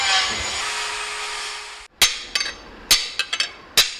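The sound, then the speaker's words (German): A steady hissing roar cuts off, then a hammer strikes a glowing metal rod, just taken from the furnace next to it, hard and with great force: about eight sharp ringing blows in an uneven rhythm, some landing in quick pairs. “klopft mit großer Wucht auf einen glühenden Metallstab, den er zuvor aus dem Ofen nebenan geholt hat.”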